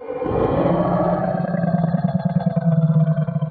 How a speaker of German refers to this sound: Der T-Rex ist ein sehr großer Dinosaurier. Er ist Fleischfresser und er wird oft gefährlich dargestellt. So ungefähr klingt ein T-Rex aus einem Kinofilm.